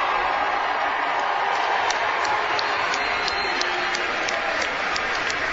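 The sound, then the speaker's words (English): A large crowd at a Chicago Blackhawks event roars and applauds as chairman Rocky Wirtz is introduced, a steady, dense wall of cheering and clapping that holds at full volume throughout, with sharp individual claps and whistles poking through the broad noise. “We love John, but wait to hear this roar for Rocky.”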